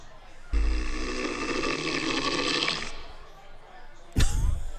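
A single long, rattling snore from a man rumbles for a couple of seconds, loud and buzzy, then fades out, followed by a brief sharp knock near the end.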